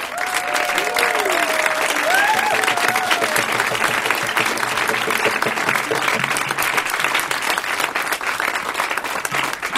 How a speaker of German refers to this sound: Und ich möchte nochmal um einen extra Applaus bitten für den